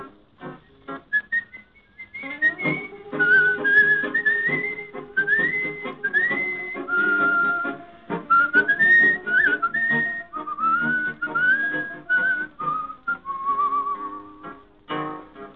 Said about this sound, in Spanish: y un reo meditabundo va silbando esta canción.